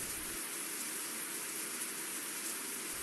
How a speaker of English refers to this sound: I feel the soft patter of water on my head. I look up at the small holes that project the only light I can see. Water is coming through, raining on me.